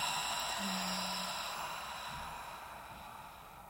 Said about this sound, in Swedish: Så vi börjar med att ta ett djupt andetag in genom näsan. Håller lite lätt. Och öppna munnen och andas ut.